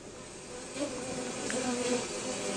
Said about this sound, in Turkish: Bakın bir Koran'da, komanda takriben 60 bin arı yaşıyor. Bunlar yeterince nektar bulabilirlerse yılda 20 kilodan fazla bal toplayabiliyorlar.